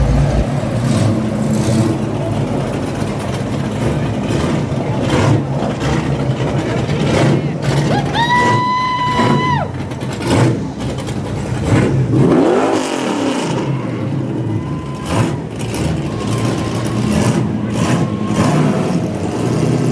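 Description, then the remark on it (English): Car engines rev and rumble through a busy outdoor crowd at a car show, with a rising, whining burst midway and steady mechanical noise throughout, voices chattering faintly in the background. “Welcome to the car show.”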